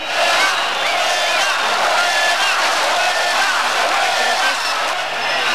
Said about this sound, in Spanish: Multitud de personas se concentran alrededor de la Plaza de Neptuno, donde continuamente gritan, pitan y corean consignas contra una clase política que dicen no les representa.